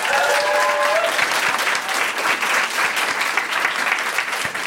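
A quiz show audience applauds steadily throughout, a dense, loud wash of clapping with no pauses, plus a brief whistle-like tone near the start.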